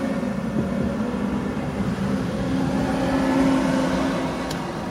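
A large truck engine rumbles steadily, its droning hum swelling slightly as it revs and passes, then easing off toward the end. No one speaks.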